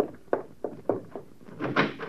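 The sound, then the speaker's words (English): A door being opened: a handful of quick, soft thuds and handling clunks, followed by a brief scraping swing, moderately quiet, with no voices. “Now answer the door.”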